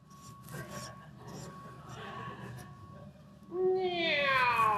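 A cat lets out one loud, drawn-out meow near the end, following a few seconds of quieter rustling and low background noise.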